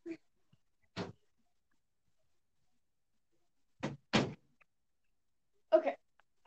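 A door being shut: a handful of short, solid thuds spaced across several seconds, with a quick double knock of latch and frame near the middle, otherwise quiet.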